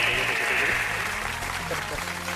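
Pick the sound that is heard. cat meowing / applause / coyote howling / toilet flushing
applause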